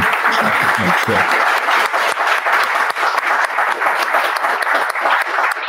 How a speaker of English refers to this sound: I think you should probably do a round of applause, you know, for the story.